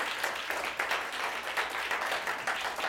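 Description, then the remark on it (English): An audience claps for God together in a dense, sustained burst of applause, many hands striking at once in a steady, bright wash that fills the room without any voices. “Give God a great hand clap if you believe that.”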